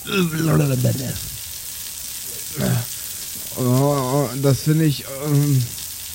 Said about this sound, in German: Die Kälte, die aus dem Schlauch mit dem Wasser über Sexbombs Körper fährt, lässt ihm die Haare am ganzen Leib zu Berge